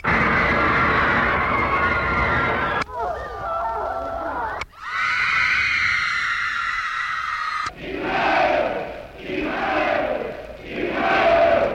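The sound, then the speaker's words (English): A loud, dense wash of recorded crowd noise played from a record on a screaming machine meant to replace a teenage audience, in several abruptly spliced segments: roaring voices, a brighter clamor with shouting, then swelling, rhythmic waves of cheering, with no gaps between sections. “Whoops, wrong crowd.”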